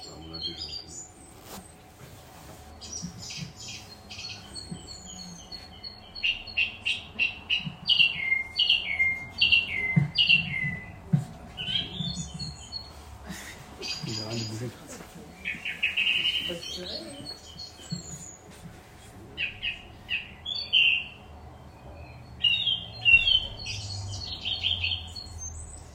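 A loud, strident bird song of sharp, high notes repeated in quick phrases, broken by short pauses, carrying far and ringing out clearly over a low background rumble, from a bird that perches very high in this season.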